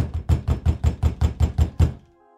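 Loud, rapid knocking by a furious husband on the door of a neighbor's house on Flower Street in July 1922, about nine or ten heavy, evenly spaced blows in under two seconds, then it stops abruptly, leaving near silence.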